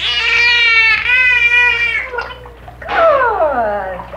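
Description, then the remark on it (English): A marine mammal's blowhole call imitating a spoken name: two loud, strained, voice-like bursts, the first held fairly steady, the second sliding downward in pitch, with no one talking. “He would eventually roll over almost into the water with the blowhole to muffle the Margaret.”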